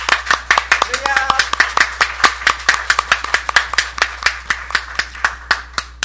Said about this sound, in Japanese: それでは、今この場所に満ち溢れておられる主に感謝の拍手を持って、感謝の拍手を持ってまいりましょう。